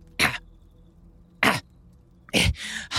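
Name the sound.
coughing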